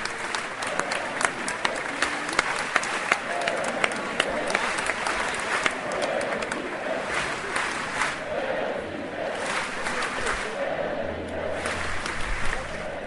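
A large, dense crowd of young people in central Zagreb, Croatia, claps and cheers continuously on seeing the popemobile carrying Pope Benedict XVI, with sharp hand claps rising over a sustained roar of excited voices, loud throughout.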